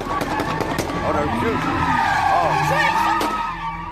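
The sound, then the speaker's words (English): Sports cars spin donuts at high speed at a night-time street-racing car meet in Chicago in October, tires skidding with a loud, continuous screech that wavers up and down over roaring engines. Indistinct voices can be heard beneath the noise. “Social media footage showed sports cars spinning donuts at high speed.”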